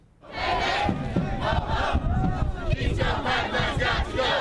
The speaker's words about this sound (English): Thousands of people marched on the National Mall in Washington yesterday, braving a cold winter wind to take part in what organizers call the biggest climate rally in U.S. history.